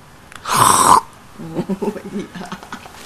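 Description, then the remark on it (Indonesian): A person imitates a pig with a loud, rough, raspy snort lasting about half a second, followed by a run of quieter voiced grunting sounds or murmuring. “Babi gimana bunyinya?”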